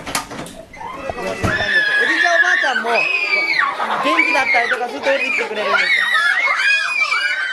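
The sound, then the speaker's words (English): Young children in a preschool shriek and shout over one another as they play, a loud, continuous jumble of high-pitched voices. “You walk into the room and you are bombarded by these little bodies screaming and flying around, and the vitality, man, is just over the top, and it's infectious.”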